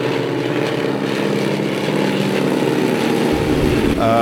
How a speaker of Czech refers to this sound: Teď momentálně zde lítají historická letadla, která parkují v Podhořanech. Jedná se o letadla Sopwith a v podstatě je to opět raritní kousek, která stará se dochovala až se období druhé světové války.